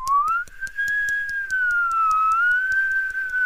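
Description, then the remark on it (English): A person whistles a long, steady, gently wavering note to imitate the wind, while a quick, even patter of two fingers tapping against the palm of one hand continues underneath to imitate rain. “And the whistling of the wind, don't forget that.”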